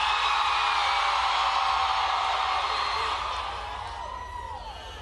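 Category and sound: crowd, audience screaming and cheering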